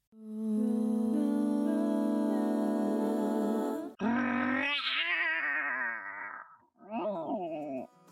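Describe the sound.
A singer holds a steady sung note, then breaks into a loud, raspy roar imitation followed by a shorter, wavering growl, with no talking.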